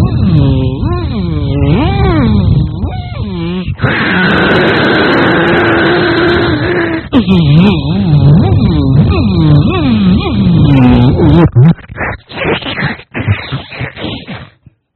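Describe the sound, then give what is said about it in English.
A voice imitates a dentist's drill: loud warbling, wavering whines give way to a steady, high-pitched sustained whine lasting a few seconds, then more wobbling whines and choppy bursts at the end. “Drilling a hole in his head, sucking his brains out?”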